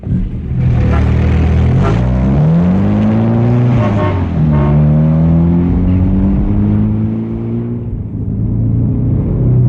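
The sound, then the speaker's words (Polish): A car engine roars, its pitch climbing as it accelerates hard through a couple of gear changes before settling into a steady, loud drone as it drives off. “szybko do mojego samochodu, wsiadaj.”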